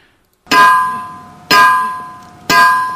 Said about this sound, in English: Each rock, when struck with a hammer or some other rock, actually makes noise. So if you listen very closely, we're actually going to demonstrate this. So this is what it would sound like if you hit a rock with a low tone.